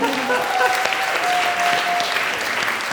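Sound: applause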